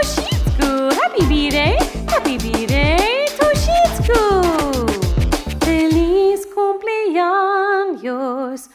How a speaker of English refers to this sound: My dog says awoo.